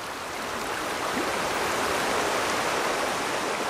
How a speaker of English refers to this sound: The river got faster and faster, and soon they were in rapids.